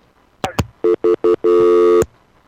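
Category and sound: signal or alarm, telephone dial tone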